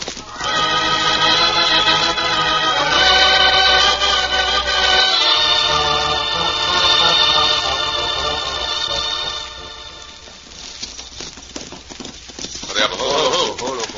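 Loud, drawn-out horse whinnies ring out for about ten seconds, then give way to a quicker patter of hooves clopping at the end.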